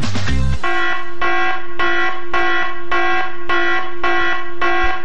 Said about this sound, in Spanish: Oye, esto es la alarma, porque estamos en concurso. Estamos en concurso y tenemos una nueva letra.